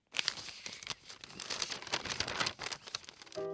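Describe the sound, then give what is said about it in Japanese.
Steady rustling and crinkling of paper for about three seconds as a letter from Francis is pulled out and unfolded, ending as a soft musical tone begins. “フランシスの手紙。”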